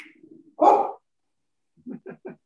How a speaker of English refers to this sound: I hear your puppy in the background. Yes. Okay. Now your dog's gonna make my dog start barking.